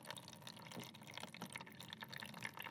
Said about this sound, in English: So we're putting one blob of the plasticine into one of the tanks, and water is now trickling out into the bowl.